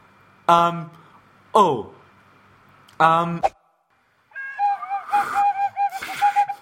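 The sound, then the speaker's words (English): Three short, harsh honking calls, then a person's warbling, wavering whistle with sliding pitch that carries on for a couple of seconds, moderately loud. “I'm trying to whistle with you.”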